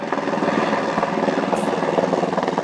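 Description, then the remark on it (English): A helicopter flying in before dawn from the Sierra Nevada in California, carrying firefighters and coolers of tadpoles; its rotor chops steadily and loudly, a dense rhythmic thumping over a broad engine roar, sustained throughout. “She gets up before dawn to meet a helicopter that's flying in from the Sierra Nevada.”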